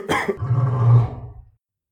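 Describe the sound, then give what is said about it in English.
One loud, harsh cough from a person with a cold bursts out and stretches into a deep, rumbling growl lasting over a second, a human voice mimicking a lion's roar, alone. “Lions have never heard a roar like mine before.”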